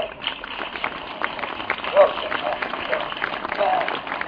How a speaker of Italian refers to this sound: Un applauso allora a lui.